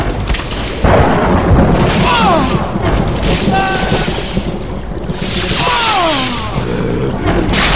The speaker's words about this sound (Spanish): El gran torrente de agua levantó de nuevo a Itán, mientras el cielo, respondiendo a las órdenes de la luz, descargó sus relámpagos calcinando a los hombres de Ricardo.